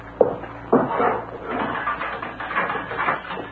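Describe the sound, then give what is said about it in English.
A door is opened: two sharp clunks from the latch come close together, followed by a rough, sustained scraping and rattling as it swings, on a muffled, old-sounding recording. “Open the door, Sellaw, Porthos.”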